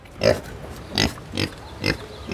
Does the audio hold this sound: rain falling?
no